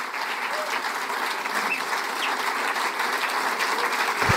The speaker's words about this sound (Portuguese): Uma aventura que continua a ser bastante aplaudido aqui na sala.